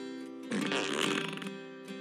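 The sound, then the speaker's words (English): A truck starting up with a loud, fart-like blast: a raspy, sputtering burst about a second long, set against a steady buzzing drone, with no voices. “It makes a fart noise when you start it up.”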